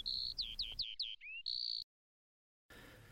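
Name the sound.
songbird singing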